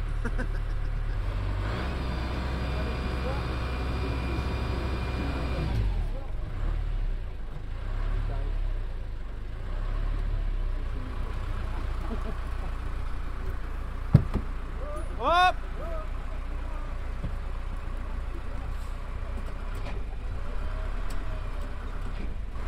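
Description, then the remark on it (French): The inboard motor of a sailboat, a replica of a flambard goémonier, runs to recharge the batteries as the boat leaves the port of Coumanac. It drones steadily, a low continuous rumble that is strongest at first and then settles into a softer hum, with a brief chirping squeak partway through. “Sans moteur. Mais là, on recharge les batteries.”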